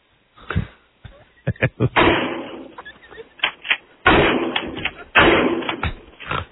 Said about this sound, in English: All right, and put the phone, you know, far away so we can just, like, hear the sound of the shotgun. And what part of the car are you shooting at?